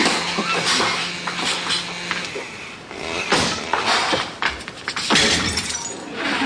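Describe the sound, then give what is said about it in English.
Men smash and break objects in a rapid, continuous clatter, with bright crashes of shattering glass and crunching debris piling on top of one another, loud. “Can't men ever work out their emotions without smashing and breaking things?”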